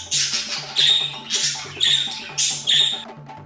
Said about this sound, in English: That'd be a bird.